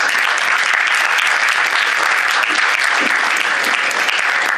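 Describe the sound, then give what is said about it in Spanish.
An audience claps steadily throughout for a professor after her address, a dense, loud wash of many hands with no pauses and no voices rising above it. “así la profesora nos dio pues, en su elocución pues, un ejemplo de respeto, y vamos, yo he pedido un aplauso para la profesora por la forma tan respetuosa.”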